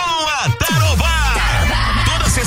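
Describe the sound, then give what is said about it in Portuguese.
A group of construction workers on a break at a building site lets out a loud, sustained collective shout, several voices yelling together with rising and falling whoops, no spoken words, during a barbecue held at the site by radio station Tarobá FM. “Tá na hora de dar aquela pausa e soltar o grito.”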